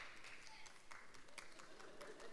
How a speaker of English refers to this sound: 都是太太们在鼓掌。 All the wives are clapping.